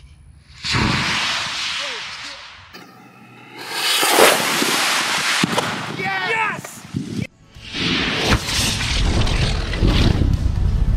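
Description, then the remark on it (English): A rocket strikes a propane tank and erupts in a loud fireball explosion, sending the flaming propane tank spinning away, with several roaring, crackling bursts and whooshes over about ten seconds. A person shouts excitedly amid the blasts. “I could tell it worked right away by the sound of the fireball, and I could see a flaming propane tank spinning away.”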